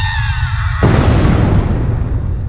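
A shrill, tonal creature cry over a low rumble cuts off into a sudden loud explosion as the glowing creature explodes in its rebirth, followed by a sustained roaring, crackling rumble of magical fire that slowly thins out. No one speaks.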